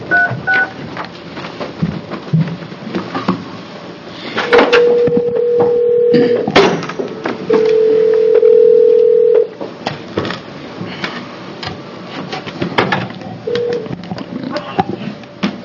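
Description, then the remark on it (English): Two long, steady electronic telephone tones sound loud, separated by a short gap, with brief dialing beeps around them and faint background chatter, as a House committee hearing phones a caller to bring them in on speakerphone. “and we're going to bring someone up on the phone right now.”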